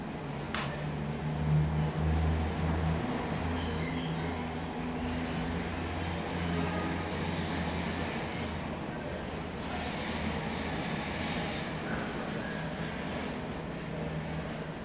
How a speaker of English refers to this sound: Wild track number 1055, room tone of apartment with window open and some traffic.